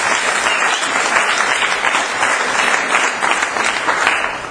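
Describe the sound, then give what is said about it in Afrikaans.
An audience at an evening church service applauds for the Lord after praise and worship, many hands clapping in a dense, sustained wash of noise that stays loud and even throughout, with no voices standing out. “Nou gee vir die Here 'n groot hand klap.”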